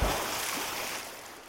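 A water splash with a low thump at the start, then a broad, hissing wash of water that slowly fades over about a second and a half. No voices.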